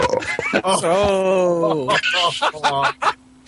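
A long, loud, low-pitched belch made into a microphone rumbles for over a second, followed by a few shorter throaty grunts and noises.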